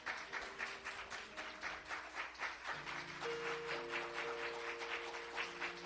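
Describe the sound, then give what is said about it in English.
A church audience claps steadily in rhythm for the Lord for several seconds, a dense crackle of many hands, while sustained keyboard or organ notes hold underneath and shift to new chords partway through. “We appreciate the clapping, amen, but can we go ahead and put our hands together for our Creator, for our Savior, for the one that hears our cry and delivers us from our distresses.”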